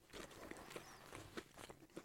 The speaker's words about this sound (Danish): Mm. Ret meget. Det lyder som en hest, der tykker... Også, vi er ikke engang halvvejs endnu. En ko, der tykker drøv. Godt bare klippe ud her, og du klipper ud endelig om lidt. Og du spiser stadig.